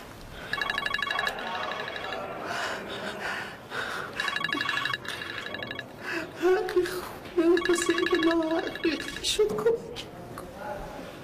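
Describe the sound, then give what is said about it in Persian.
A telephone call is placed: repeated bursts of trilling electronic ringing tone, with brief pauses between rings, while people talk quietly in the background. “راست میگن خان جون، میخوان یه تماس بگیرم؟”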